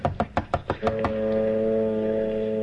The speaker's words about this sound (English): Those foghorns are giving me cold shivers. Yes, they do sound eerie.